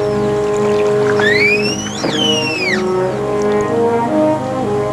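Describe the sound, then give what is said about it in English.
The engine of a small motorboat being steered at sea drones steadily and loudly, with a dense tonal hum throughout, while high gliding whistle tones rise and fall over it midway. “Later, he steers the small motorboat at sea.”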